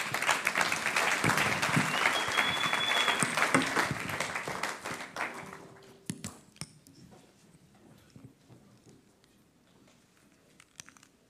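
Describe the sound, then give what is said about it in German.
An audience claps to welcome a speaker about to give a talk on Israel, in a dense, steady burst of applause for about six seconds, then it thins out to a few scattered claps and fades away. “Also nochmal einen Applaus”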